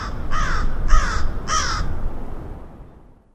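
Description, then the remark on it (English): A crow gives three harsh, evenly spaced caws in quick succession over a low outdoor rumble, loud, with no voices present. “Was it coming from the crows?”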